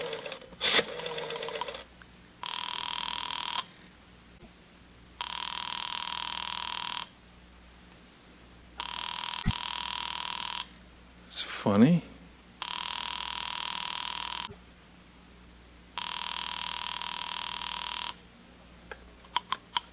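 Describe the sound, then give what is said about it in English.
A telephone rings five times in long, steady bursts separated by short pauses, clear, with a few brief background knocks between rings. “I want to get Jessie on the phone.”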